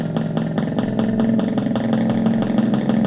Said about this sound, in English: Here's the motorcycle at a stoplight. Oh, there we go. It's idling. The motorcycle is idling.